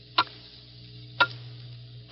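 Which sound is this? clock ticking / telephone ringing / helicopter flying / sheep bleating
clock ticking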